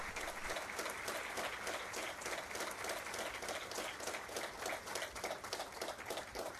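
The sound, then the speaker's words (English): A large church audience in Tampa applauds steadily to welcome a visiting nun who has come to teach, a dense, continuous patter of many hands clapping at once that stays fairly even in loudness throughout, with no voices standing out above it. “Brothers and sisters, I invite you to welcome her with a great applause.”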